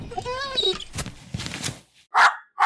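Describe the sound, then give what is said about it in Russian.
A puppy gives two sharp, high barks, one right after the other, following a stretch of talking. “Однажды девчонка обнаружила на морде своего щенка рану.”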